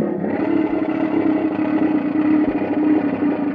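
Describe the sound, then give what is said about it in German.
A continuous, buzzy mechanical croak from a noise-generator instrument called the Quaker sustains steadily for a few seconds, loud, with a rough, rasping texture and no voices. “Der Quaker.”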